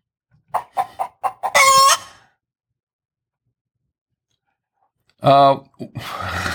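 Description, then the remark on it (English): A hen clucks several times in quick succession, then lets out a loud, drawn-out squawk; after a pause of silence, another sharp squawk follows, trailing into noisy rustling. “Where are my other chicken?”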